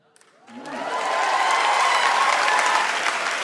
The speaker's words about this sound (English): So first of all, I'm very curious whether the applause is for the non-hormonal or for the men.